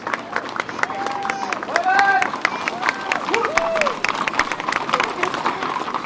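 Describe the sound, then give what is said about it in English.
A lively outdoor crowd at a United States presidential inauguration parade murmurs and chatters while eagerly waiting for soldiers to dismount their horses, with scattered clapping and a few excited high-pitched voices rising above the steady hubbub. “After the horses have paraded through parts of downtown, an eager crowd waits for the soldiers to dismount.”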